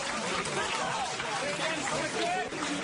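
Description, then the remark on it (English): A large protest crowd of hundreds of people chants that media will not be silenced as police raid Zaman newspaper in Istanbul. It raises a dense, continuous roar of many voices, loud and steady throughout, with occasional rising vocal tones standing out above the mass of noise. “Hundreds of people chanted that media will not be silenced as police raided Zaman newspaper in Istanbul.”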